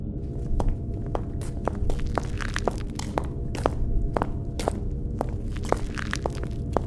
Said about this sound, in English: Don't worry, your boy left us a trail. Just feel around with your foot until you feel something crunch.